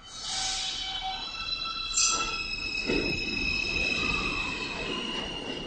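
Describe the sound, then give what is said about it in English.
One of the most modern subway trains pulls into a station with a sustained high-pitched metallic screech and whine, layered tones shifting over a steady rumble of wheels on rails, loud with no one speaking. “That, of course, the familiar high-pitched sound of some of the most modern subway cars pulling into the station.”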